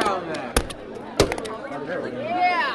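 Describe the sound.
A fist slams a stapler through paper twice, each a sharp, loud thwack followed by a few lighter metallic clicks, with a faint voice murmuring underneath.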